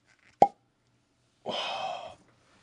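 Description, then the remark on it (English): A single sharp pop like a cork being pulled from a whiskey bottle, then after a pause, the whiskey, made with Black Butte Porter and oak-aged, splashes into a glass in a short, steady pour of about half a second. No one speaks. “So, let's give this a pour.”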